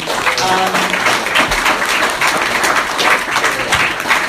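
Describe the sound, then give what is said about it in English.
A crowd bursts into sustained, loud applause for a speaker who has just said they will celebrate 32 years clean, dense overlapping claps filling the whole stretch with a steady roar and no pauses. “I didn't share that for the applause.”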